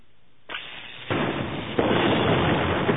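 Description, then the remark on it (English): A loud explosion blasts open the loading dock side door of a warehouse, building in three sudden blasts, each heavier than the last, then settles into a sustained, crackling roar of noise that fills the rest of the moment, with no voices. “A halo of brilliant white fire surrounded the door, then imploded, leaving a smoking hole through which stormtroopers began to run.”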